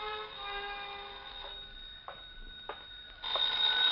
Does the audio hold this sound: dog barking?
no